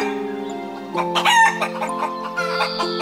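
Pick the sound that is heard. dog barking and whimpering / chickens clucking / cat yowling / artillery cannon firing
chickens clucking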